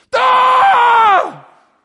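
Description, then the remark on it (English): A person lets out one loud, sustained scream of pain, holding a steady strained pitch for about a second before it drops and trails off, performed as an imitation of the scream when a dislocated joint is popped back in. “But have you heard the scream that what happens when you pop it back in?”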